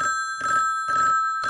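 A telephone on a Long Island party line rings with an odd, stuttering pattern after 660 then 7 is dialed and the caller hangs up: short bursts of ringing roughly every half second over a steady tone, fairly loud, with no voices.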